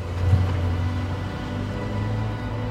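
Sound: car passing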